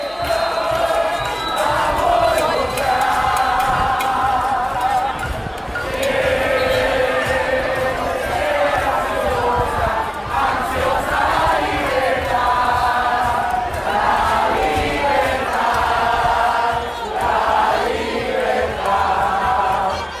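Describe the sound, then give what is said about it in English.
A large crowd of Puerto Ricans celebrates on the streets of San Juan at night after forcing Governor Rossello to resign, many voices chanting and singing the revolutionary anthem together with rhythmic surges, cheers and shouts rising over a steady, loud roar of people. “Those are the sounds of Puerto Ricans celebrating their movement's victory to force Governor Rossello to resign.”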